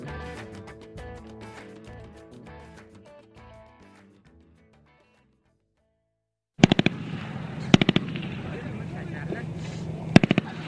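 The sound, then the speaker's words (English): Music fades to silence, then loud gunfire erupts in a combat exchange involving Canadian troops in southern Afghanistan, over a rough, noisy field background: sharp cracks in quick clusters, with scattered single shots between the bursts. “Gunfire there last week in southern Afghanistan.”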